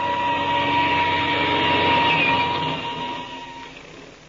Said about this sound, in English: But there's no use speculating about it now. We've got to be in the air. I'll start the engine. We'll take off.